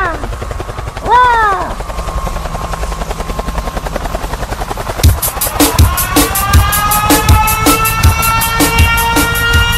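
Helicopter sound effect in a song: a humming drone with rising synth sweeps, then loud, rapid rotor-like thumping kicks in halfway and pulses steadily against sustained tones.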